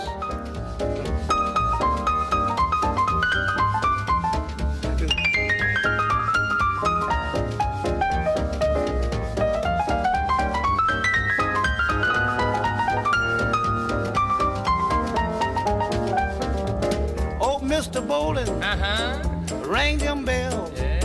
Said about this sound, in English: Right, double dose of the vibraphone action.